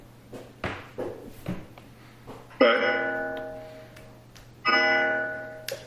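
A clock chimes the hour during a board meeting, with two resonant bell-like strikes about two seconds apart, each ringing out and slowly fading, after a few soft knocks and taps. No one speaks.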